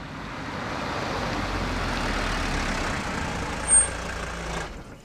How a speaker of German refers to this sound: Schließlich sind sie da. Oma parkt das Auto vor dem Haus.